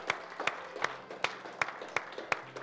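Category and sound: crowd, audience applauding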